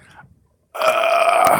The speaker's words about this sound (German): ich habe einen Rülpser im Hals gehabt. Tut mir leid. Noch einer.